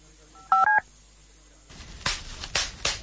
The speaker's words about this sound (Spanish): ¿Lo oyes? Sí, papel de burbujas. Es escucharlo y querer explotar una burbuja, otra y otra sin parar. ¿Hay algo más irresistible?